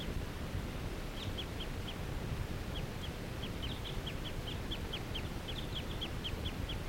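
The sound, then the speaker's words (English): A wild bird, not interacting with a nearby flock, calls in quick succession, a long run of short, high-pitched chips repeating every fraction of a second over a steady, noisy background hiss. “This is a wild bird.”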